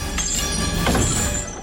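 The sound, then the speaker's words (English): Loud metallic snapping and rattling of chains giving way inside a volcano, dropping Milo and a container to the ground, with a couple of sharp jolts over a steady roaring, grinding rumble and thin ringing metal tones. “Chains give way.”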